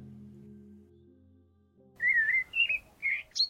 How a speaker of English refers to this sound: The sun shines through your window. You can hear the morning bird song as you open your eyes to start your day.